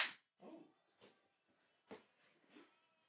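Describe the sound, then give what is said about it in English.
A single sharp smack of a hand slapping someone's backside lands right at the start, followed by a few soft, muffled murmurs and shuffling sounds at low volume. “I didn't mean to slap your ass.”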